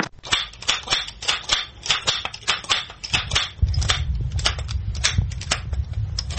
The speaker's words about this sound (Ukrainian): Калатало, таке народна назва. Коли на Великдень біля церкви, біля дзвіниці, в такій школярі 10-12 років, калатають, розганяючи цю нечисту силу.